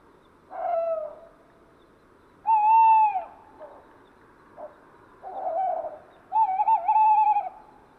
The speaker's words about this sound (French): Sur l'arbre à l'extrême droite se trouve un hibou fauve. Il s'agit d'un mâle qui nettoie son plumage tandis qu'il ulule d'une manière insistante.